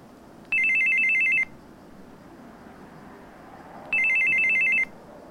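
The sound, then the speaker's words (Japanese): A telephone rings twice with an incoming call, following a call from someone pretending to be the son. The rings come in trilling bursts of about a second each, separated by a pause, loud over a faint background hiss with no one speaking. “息子を装う電話はすぐに切れてしまいましたが、別の電話がすぐにかかってきました。”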